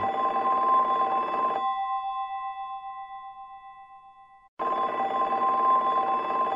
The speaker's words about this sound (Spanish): ¡Teléfono!